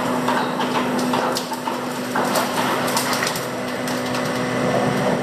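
Dense, irregular crackling and sharp popping snaps from gas-rich seafloor rocks bursting on a ship deck once out of the water, like popcorn, many small bursts overlapping in a continuous sizzle, fairly loud over a steady low mechanical hum of the ship's equipment, with no voices.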